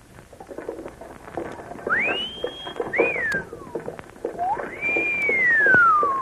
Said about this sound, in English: That's the oddest way they whistle. I've heard it several times along the street.